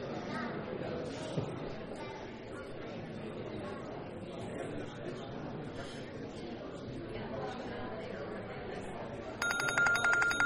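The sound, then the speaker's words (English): A crowd murmurs and chatters steadily, then near the end an alarm bursts into ringing, a bright, sustained tone that rises above the voices for its final second. “All right, there's our alarm.”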